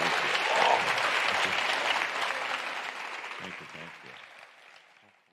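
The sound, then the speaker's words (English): An audience applauds a guest, a dense wash of clapping hands that is loudest near the start and gradually fades out over about five seconds, with a few scattered claps trailing off at the end. “So please, well, you give guys, it up.”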